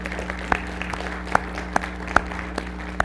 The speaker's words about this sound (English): This clapping counts for all 6, okay, because it's not fair, but thank you.